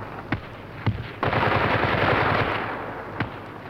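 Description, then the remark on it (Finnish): Machine gun fire rattles in an ongoing battle on a late-autumn night, with sharp single shots cracking at intervals over a dense, roaring wash of noise from sustained bursts. “Taistelu on käynnissä. Konekiväärit vapattavat.”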